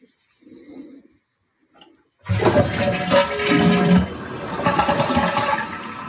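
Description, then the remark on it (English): A few soft clicks, then a toilet flushes loudly, a steady rushing gurgle with a faint, thin flute-like whistling tone running through it that starts as soon as the flush begins. “I heard the toilet flushing, obviously, but I can't hear it.”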